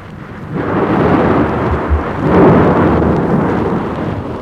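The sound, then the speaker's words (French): A thunderstorm with heavy rain hissing steadily and deep thunder rumbling in two swelling rolls, loud, with no voices. “Une jeune femme blonde est éveillée et a peur de l'orage.”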